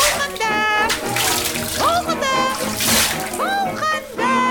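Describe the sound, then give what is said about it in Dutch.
Water splashes and sloshes steadily in a large tub of boiled water as children take turns bathing in it during the weekly Saturday family bath, while children's voices chatter and squeal over it, fairly loud throughout. “En daar gingen alle kinderen oms de beurt in.”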